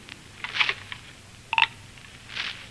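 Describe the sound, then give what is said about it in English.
A telephone being dialed in a phone booth to make a legal call: a few short, bright beeps and clicks spaced unevenly over a couple of seconds, fairly quiet, with no voices. “All right, there's the phone booth. Make your legal call.”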